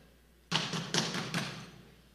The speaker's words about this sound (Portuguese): bateu na porta. Bate na porta aí, irmão, bate na porta aí. O Pedro não ia bater assim não, irmão. Bate, bate, bate, bate.